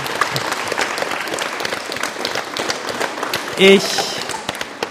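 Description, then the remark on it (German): Dense, sustained farewell applause from students at the Magnus-Gottfried-Lichtwer-Gymnasium in Wurzen, many hands clapping steadily for the full five seconds, with a brief louder burst near the end. “Wir verabschieden uns mit einem ganz warmen und herzlichen und liebevollen Applaus heute aus Wurzen vom Magnus-Gottfried-Lichtwer-Gymnasium.”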